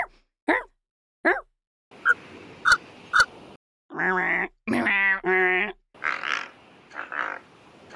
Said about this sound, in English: Sounds like a pig, kind of. It sounds like a snurfling pig. Yeah. And then a puppy. Yeah. But it's not. It's a big dumb bird.